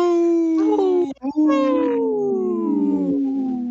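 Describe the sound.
A person howls like a wolf on Native Roots Radio: a loud, sustained wail that breaks briefly, then resumes and slowly slides downward in pitch for about two more seconds.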